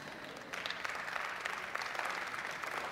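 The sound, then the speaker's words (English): An audience claps in a steady, moderately quiet patter of many overlapping hand claps that swells slightly after the first half second and continues evenly, with no voices. “But by judging by your clap, you don't believe it.”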